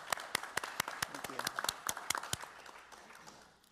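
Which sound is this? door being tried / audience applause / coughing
audience applause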